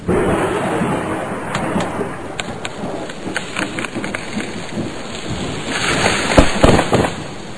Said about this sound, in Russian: Но было слышно только, как бушевал вышедший из берегов Рейн, и еще время от времени треск и рушение очередного дома.